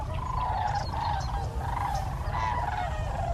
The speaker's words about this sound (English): These huge birds, with up to 7-foot wingspans, make an unforgettable sound. Perhaps you've heard it echoing down the sky as a V of cranes passes so high overhead that they're barely visible.